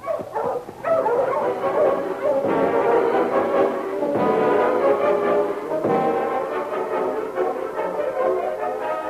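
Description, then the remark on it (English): A pack of husky sled dogs at a cabin in Seahorse City barks and yips nonstop for the whole stretch, their overlapping high voices loud, with a few whining, howl-like cries mixed in. Nobody speaks. “Okay, go, you Huskies!”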